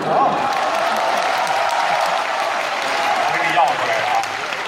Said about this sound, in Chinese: 谢谢各位的热情掌声。嗯， 哪有掌声啊？